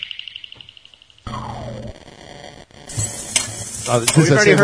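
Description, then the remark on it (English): Dishes being washed: a steady hiss of rushing water with scattered clinks and clatters that grow busier toward the end, preceded by a brief rapid pulsing whine. “And here it is. That's, the dishes.”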